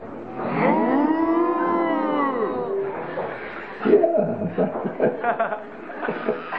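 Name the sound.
people imitating cows mooing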